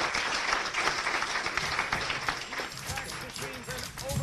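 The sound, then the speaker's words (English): A crowd at a museum event about typewriters in New Britain applauds steadily, a dense wash of many hands clapping at once, with some cheering and voices mixed in, holding fairly even loudness throughout. “How about let's hear it for this museum, for typewriters, for everything.”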